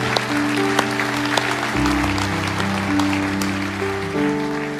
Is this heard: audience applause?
yes